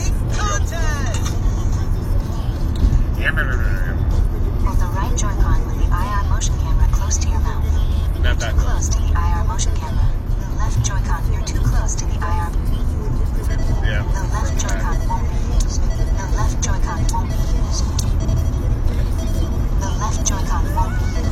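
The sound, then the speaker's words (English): A steady, continuous rumble of road and engine noise from inside a moving car, droning evenly throughout, with indistinct voices faintly mixed in. “And you're driving a car out turns and stuff.”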